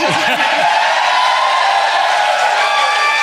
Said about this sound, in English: This crowd is fired up. They sound awesome.